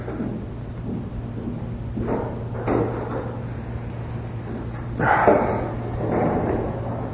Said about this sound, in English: I'm going to say, could you prop a chair in that back door back there? We might get a little breeze coming in there.